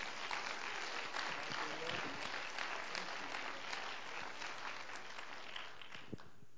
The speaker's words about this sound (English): Why don't you clap your hands to Him?